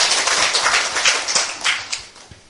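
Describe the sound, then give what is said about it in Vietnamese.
A Buddhist assembly applauds steadily to honor a monk lecturer, dense overlapping hand claps forming a continuous, moderately loud wash of sound with no voices over it. “Xin đại chúng cho một tràng pháo tay để tôn vinh thầy tòa giảng sư.”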